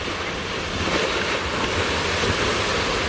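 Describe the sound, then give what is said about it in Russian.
Steady roar of Pacific Ocean surf breaking on a California dog beach, a continuous wash of waves with gusty wind buffeting the microphone, fairly loud, with no voices. “Вот оно, Друзья, небо Калифорнии, небо Тихоокеанского побережья, а вот и само побережье.”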